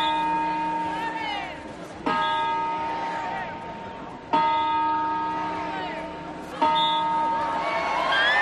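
Four loud New Year's Eve clock-bell chimes from the Puerta del Sol in Madrid, Spain, during the rehearsal held before December 31, ring out at a slow, steady pace about two seconds apart, each strike leaving a long, shimmering ring, with a faint crowd murmur underneath.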